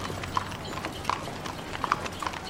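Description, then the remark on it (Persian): A horse-drawn carriage and a car pass along the middle of the street: sharp, irregular hoof clip-clops ring out over a steady low rumble of wheels and traffic. “همونجا یک کالسکه و ماشین از وسط خیابون رد میشن.”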